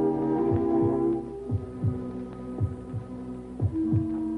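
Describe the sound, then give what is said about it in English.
A patient's steady heartbeat, growing stronger after a transfusion of 250 cc of new blood, thumps in paired beats, roughly once a second, over a constant low electrical hum with a faint ringing tone. There is no talking. “Heartbeat? Stronger.”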